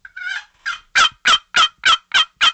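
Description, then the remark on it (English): A voice imitates a turkey hen calling: a short rising yelp, then a steady run of six or seven loud, evenly spaced yelps, clear with no talking over it. “The hens calling out. That sounded a little bit more like a turkey.”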